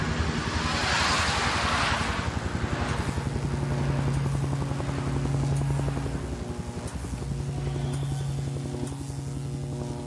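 A police patrol helicopter drones steadily overhead for the whole stretch, its loud engine hum pulsing with a low rhythmic beat as it swells slightly and then eases off, with no voices present.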